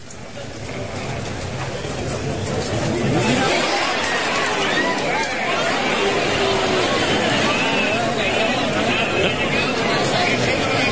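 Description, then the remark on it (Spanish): Ambience recording of the crowd at the bullfight at El Puerto, from the moment of a goring: a steady, loud roar of many voices chattering and murmuring together, with no single speaker standing out, holding constant for the whole stretch. “Sí, es que se ha puesto el sonido de la cornada.”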